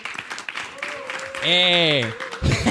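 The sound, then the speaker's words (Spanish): A crowd claps steadily in a dense, continuous patter, applauding a family that always comes, with a loud voice whooping or calling out over it partway through before the applause swells again at the end. “Like, un aplauso a esa familia porque en verdad eso está cool que siempre vienen.”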